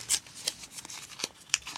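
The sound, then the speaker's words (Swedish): A small folded slip of paper, drawn from a jewel-studded gold goblet in a competition draw, being opened, with a few quiet, crisp crinkles and rustles spread unevenly over a couple of seconds, without any talking. “Tar vi en papperslapp här.”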